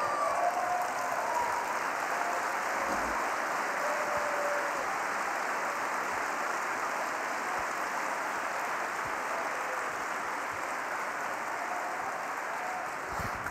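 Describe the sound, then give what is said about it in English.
Sustained applause from a large crowd standing up, a dense, steady wash of many hands clapping at once, holding at an even loud level throughout with no speech over it. “But if you've ever been in crisis mode, stand up and clap your hands.”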